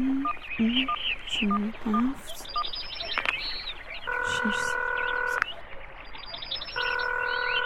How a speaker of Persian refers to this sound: ای بابا چرا موبایل خودت جواب نمیده؟ نه فایده ندارم، هرچی که زنگ میخوره بر نمیدارم.